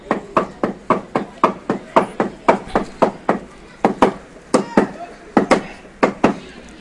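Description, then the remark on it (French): Wooden mallets pound a large piece of cloth, about 2 metres long, in a quick, steady rhythm, about twenty sharp dull thuds with a brief break partway through, each blow crisp and fairly loud. The beaters face each other with a log between them, pulling the cloth as they strike it; the trade is called finungusila in Bambara. “Et ils se tirent. Ils tirent en tapant. Ce grand bout de tissu qui fait bien 2 mètres 53 mètres.”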